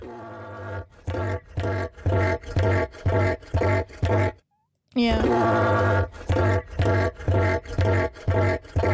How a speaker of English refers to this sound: I want to play the cassowary noise for you guys. I think I can play it here. I don't know how loud it is, to be honest, because I forgot to check.